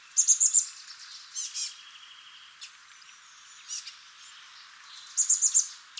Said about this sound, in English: It's the chestnut-backed chickadee, Peacely rufescens. Here are some chestnut-backed chickadees in California making a variety of squeaky calls.